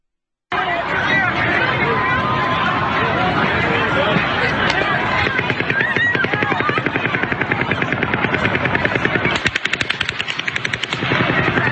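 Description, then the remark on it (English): Rapid bursts of distant gunfire crackle in quick succession, a steady stream of shots running through the second half beneath a continuous rumble and the murmur of a crowd. “And then listen to the clear, distinct second type of fire in this video.”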